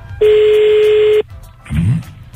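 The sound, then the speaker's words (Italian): A single steady telephone ringing tone sounds for about a second over a hissy phone line, followed by a brief muffled voice-like burst. “Via, squillare, squilla subito.”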